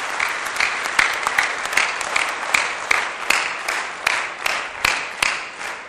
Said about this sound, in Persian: مرسی، تشویقش کنید. مرسی، تشکر.